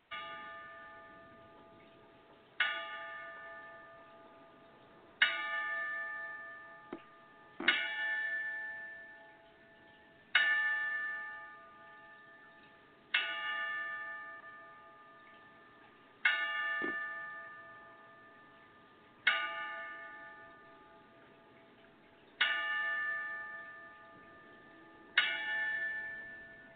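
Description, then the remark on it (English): A boxing ten-count memorial bell tolls ten times in memory of a boxer who died after a knockout loss, each clear metallic strike spaced a few seconds apart and ringing out to fade before the next, with no voices. “So we will keep them and their families in our prayers, and we will go ahead and dole the 10-count bell.”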